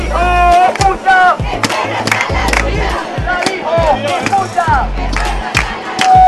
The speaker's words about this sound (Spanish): Canarias tiene un límite y eso es lo que ha querido mostrar la población a través de este grito unánime en las calles de Santa Cruz de Tenerife.